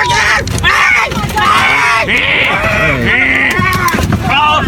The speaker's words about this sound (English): Actually, if you take audio of that guy screaming and pitch it up a bit, I bet you it sounds like a rabbit screaming. All right, bear with me here. I'm going to try this. Here, this is the original.